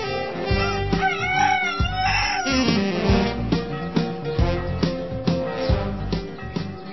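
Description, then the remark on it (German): A rooster crows loudly once or twice near the start, with chickens clucking on an organic farm in Oberelvenich, a village at the foot of the Eifel, all over steady rhythmic background music that continues throughout. “Fünf Familien leben und arbeiten hier, bauen Gemüse und Getreide an, züchten Rinder und Schweine, halten Hühner, Esel und ein Pferd.”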